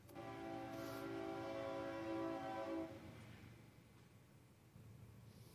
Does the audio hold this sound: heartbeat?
no